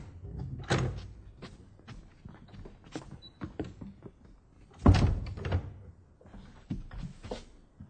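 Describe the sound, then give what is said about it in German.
A door is handled with scattered clicks and bumps as visitors come in, then shut behind them with one solid thud midway through, followed by a few quieter knocks and shuffles. No one speaks. “Na, du kommt herein und macht die Tür hinter euch zu.”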